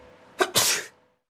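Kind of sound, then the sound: human body sound, person sneezing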